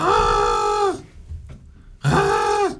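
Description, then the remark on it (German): A person imitates a crow with two loud, harsh, drawn-out caws separated by a short pause, the voice strained with a rough, nasal rasp. “Ich wollte zuerst den Hirsch nachher machen und dachte, oh, der Hirsch ist schwer, und die Kreie nachgemacht.”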